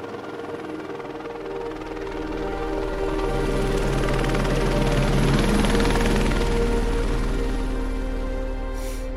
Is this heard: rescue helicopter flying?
yes